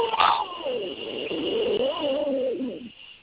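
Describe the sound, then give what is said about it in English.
The screen door of a screen house, tipped by somebody, creaks on its hinge in one long, wavering groan lasting about three seconds, rising and falling in pitch, clear with no talking over it. “No, that was somebody tipping the screen door on our screen house.”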